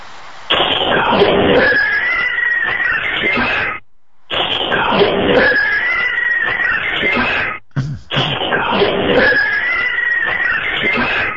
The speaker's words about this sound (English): This one sounds like cats getting into a fight. So go ahead and listen to this one.